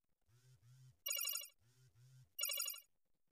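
A phone ringtone rings twice in a repeating pattern: low buzzing pulses followed by a bright, high, warbling trill, fairly loud and close, with no voices.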